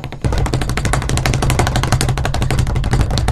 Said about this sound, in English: I'm going to keep saying it. Don't bang the table!